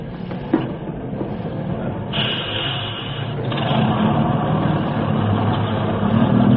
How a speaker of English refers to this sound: Just at that moment, a bus came to a stop, and I got on.